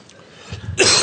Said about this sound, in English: Excuse me, 1 second. Sometimes you're going to get a cough.